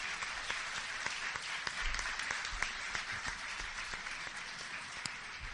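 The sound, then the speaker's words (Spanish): An audience applauds maestro Olaf Sabater steadily, the dense crackle of many hands clapping holding an even level from start to finish with no voices over it. “Un aplauso para él.”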